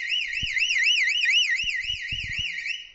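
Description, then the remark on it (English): A loud electronic water-level warning alarm wails continuously, its pitch sweeping rapidly up and down in a steady warbling cycle, with a few low thumps and knocks underneath; it is triggered as receding water lowers a ball in a tube, which obstructs infrared lights. “It obstructs the infrared lights and triggers the alarm.”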